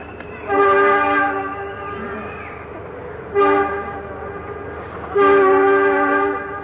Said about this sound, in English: For the sake of our listeners, that's a little train in the park that always blows the whistle on my second conference.